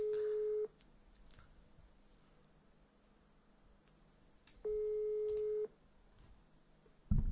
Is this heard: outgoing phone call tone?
yes